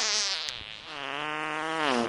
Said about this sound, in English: We have to have fart sounds for Asshole of the Week.